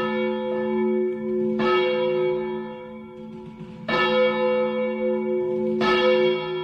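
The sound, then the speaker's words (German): Church bells ring out at the Cathedral La Ciu in Valencia, three heavy strikes about two seconds apart, each with a bright metallic attack and a long humming resonance that overlaps the next. No one speaks. “Ihr hört schon, wir sind in der Kathedrale La Ciu.”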